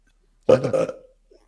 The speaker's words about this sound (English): You want to hear? Sure. Why? Give us a belch.